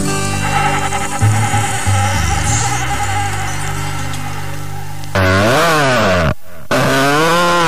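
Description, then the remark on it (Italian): A motorcycle with a badly tuned carburetor idles roughly and unevenly, then revs loudly twice, its whining pitch swooping up and back down, with a brief break between the two bursts. “Senti come sgasa, è anche scarburata sta moto, è una cosa squallidissima”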